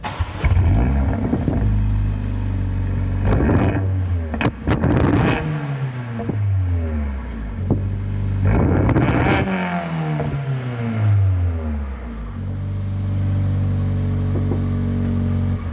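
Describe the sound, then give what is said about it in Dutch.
A Mercedes car engine idles with a deep rumble, then revs hard three times, each rev climbing and falling away, with sharp crackling pops at the peaks. No one speaks. “En dan af en toe zo'n knettertje er vanaf.”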